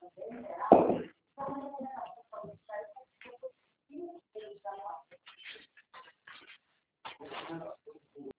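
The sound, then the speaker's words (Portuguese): A small female pinscher dog whimpers and whines in a series of short, high, uneven bursts separated by brief pauses, with muffled voices mixed in. “E que raça que é a cachorrinha da filha? É uma pincher.”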